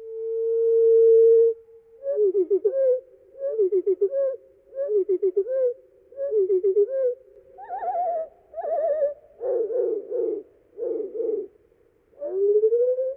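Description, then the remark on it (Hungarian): A bird call slowed down eightfold: a long, steady low whistle gives way to a regular series of short, wavering, warbling notes, strange and unmusical, with no voices. “Nyolcszoros lassításban egészen furcsa, zeneinek egyáltalán nem mondható.”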